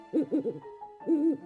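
An owl hoots: three quick, low notes in a row, a short pause, then one longer, drawn-out hoot, loud and clear with no talking over it.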